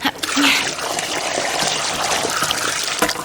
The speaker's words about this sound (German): Übrigens eine prima Idee, daraus Püree zu machen. Ich gieße mal das Wasser ab.